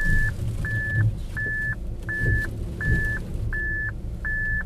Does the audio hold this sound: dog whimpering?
no